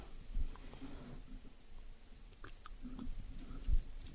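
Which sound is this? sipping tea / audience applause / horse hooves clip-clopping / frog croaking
sipping tea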